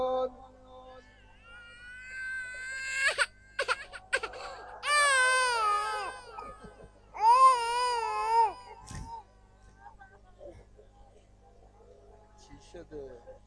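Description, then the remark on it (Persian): An infant cries in three wavering, high-pitched bursts with short pauses between them, loud, then trails off into quiet murmuring. “گریه نکن، الان میری پیش مامانت.”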